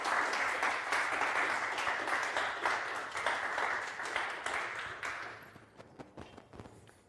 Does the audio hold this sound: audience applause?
yes